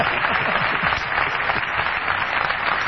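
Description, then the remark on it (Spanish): Steady applause fills the whole moment, a dense, continuous patter of clapping at an even, fairly loud level with no voices heard. “El que aplaudió a Patricio Barton es Jorge Dorio.”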